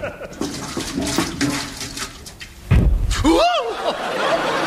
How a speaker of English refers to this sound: Here's the paraffin, Mr. Fraser. Good boy. Just pour a drop in the stove. Okay.